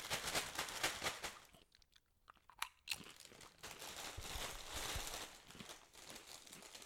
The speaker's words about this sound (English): They are nice and crunchy. They are nice and crunchy, and I like the general taste of them.